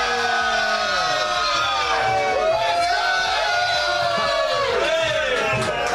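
A crowd cheers loudly and continuously for several seconds, with high whoops and yells swooping up and down over a dense bed of voices and what may be clapping.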